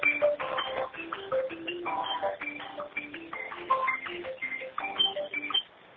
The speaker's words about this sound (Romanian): Sună telefonul.